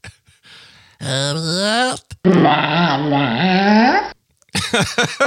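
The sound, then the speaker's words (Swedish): A dog lets out two drawn-out, throaty groaning vocalizations with wavering pitch, fairly loud, followed by a brief burst of what sounds like talking at the end. “Ja, jag tror faktiskt att det är en människa. Ja! Fel! Hund.”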